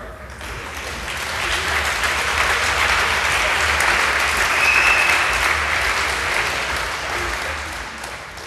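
An audience claps steadily for about eight seconds in thanks to a helper who assisted with the event, a dense, even wash of many hands that swells slightly in the middle and tapers toward the end, with no speech over it.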